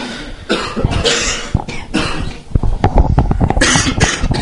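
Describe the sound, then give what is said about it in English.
A person coughs repeatedly, a run of harsh, bursting coughs with some throat clearing in between, loud and continuous over about four seconds with no speech. “Send all that coughing and stuff somewhere else.”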